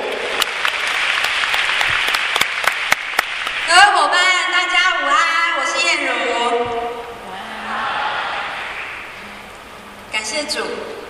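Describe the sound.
An audience claps in a steady, dense wash of applause welcoming a senior supervising manager and chain store owner who will share about Ping An company products, with a voice speaking over it midway before the clapping fades and talking resumes.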